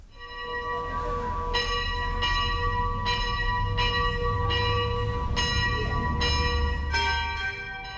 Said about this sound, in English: If people were finishing their day of work and they'd hear the bell tolling in the church and they could come and gather for that evening prayer, which was a gathering of all those different monastic offices.